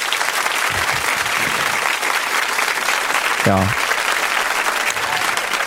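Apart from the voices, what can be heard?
applause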